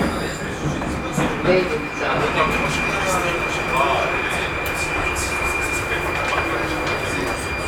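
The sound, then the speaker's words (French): A Prague metro train rumbling steadily from inside a carriage, a constant low roar with a faint high whine running throughout, while muffled voices murmur in the background. “Métro de Prague.”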